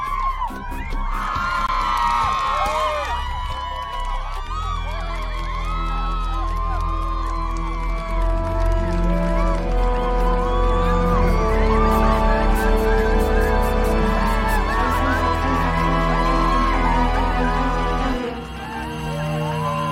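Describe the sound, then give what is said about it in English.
A large crowd cheers wildly, with shouts, whoops and screams piling over a steady roar that stays loud for nearly twenty seconds before dipping briefly at the end. “And the crowd is going nuts.”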